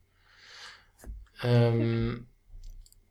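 A soft papery rustle of pages of a poetry book being flipped past a poem, followed by a small click, then a brief hummed vocal sound before faint rustling resumes; fairly quiet.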